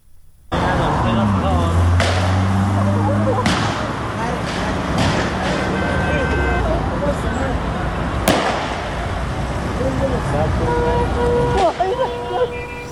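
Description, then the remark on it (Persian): Gunfire in the town of Nowshahr, security forces shooting at mourners after a memorial ceremony: several sharp, irregular cracks, one especially loud, ring out over a steady wash of traffic and indistinct shouting voices. “ما صدای تیراندازی از نوشهر رو هم داریم.”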